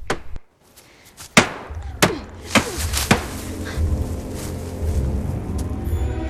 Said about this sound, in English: picks up a stick and starts hitting the car with it.